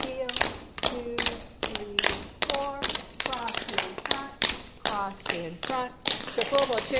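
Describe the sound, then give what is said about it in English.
Tap shoes strike a hard floor in quick, bright clicks and scuffs, an uneven dance rhythm running throughout while a voice talks over the steps. “I think there's probably 30 basic sounds that come out of your feet.”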